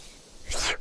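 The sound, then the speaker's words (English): A single short sneeze, a sudden hissy burst of breath lasting about a quarter second, heard alone with no talking. “Bless you.”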